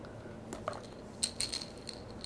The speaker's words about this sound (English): Put the keys. Put the keys in the basket.